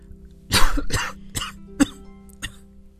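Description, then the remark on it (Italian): A run of about five harsh coughs over a baby, the first two strongest and the rest growing weaker, spaced unevenly over a faint steady low hum. “No, non tossire sul bimbo.”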